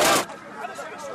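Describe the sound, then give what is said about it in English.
A crowd of Libyans celebrating in the streets of Sirte after the death of Muammar Gaddafi in October 2011: a sharp, loud burst of noise opens, followed by a steady clamor of overlapping shouting voices. “Libyans celebrating in the streets of Sirte after the death of Muammar Gaddafi”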